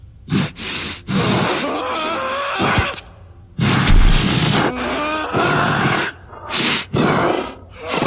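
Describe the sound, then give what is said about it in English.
A beast grunts and snorts in a run of loud, rough bursts separated by brief pauses, with heavy breathy snorts between the deeper guttural grunts. No one speaks. “Then, only the grunts of the beast remained.”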